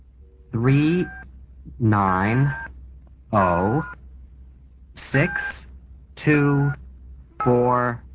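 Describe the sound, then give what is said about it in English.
A telephone number being dialed to call zip code information: six separate tone bursts, each under a second long, come in a steady, evenly spaced sequence. Each burst carries a warbling, voice-like harmonic quality over a faint background hum. “Let me call zip code information.”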